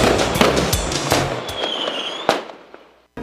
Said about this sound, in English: get ready for a huge fireworks display right through the summer sky